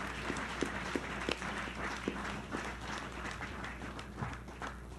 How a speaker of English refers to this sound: We have been treated to some of the most anointed music I've ever heard in my life. Would you clap for these wonderful servants of the Lord?